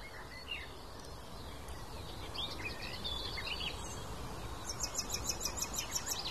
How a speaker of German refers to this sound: Das klang doch wie eine aufliegende Amsel so ein bisschen.